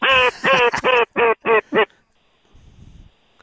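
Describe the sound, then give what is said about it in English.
A duck call, blown by a five-time state duck calling champion who guides duck hunts in Louisiana, sounds a loud, rapid run of six or seven harmonic quacks over about two seconds, followed by a quiet low rumble of background noise. “If you want the opportunity to hunt with a 5-time state duck calling champion,”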